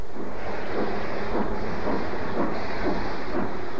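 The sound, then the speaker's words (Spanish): A steam train chugs along the rails, its steady rhythmic chuffs rising loudly over a constant hiss and low rumble, with no voices. “Viajar en tren era también ya privilegio de los mexicanos, de los privilegiados, claro.”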